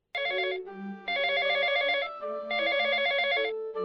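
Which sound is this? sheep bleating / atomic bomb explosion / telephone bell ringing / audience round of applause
telephone bell ringing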